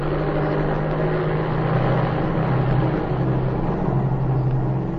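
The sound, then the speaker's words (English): A small airplane engine roars steadily as it takes off, a loud, continuous low drone with a buzzing hum that swells slightly in the middle, no voices present. “I'm going to take off.”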